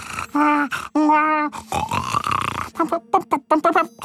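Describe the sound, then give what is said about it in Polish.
A voice imitates a roommate's snore with gurgling, grunting vocal bursts, then a rapid, sputtering flutter of short choppy pulses toward the end, loud and alone without speech. “Takie z bulgotaniem i trzepotem skrzydełek konającego nietoperza.”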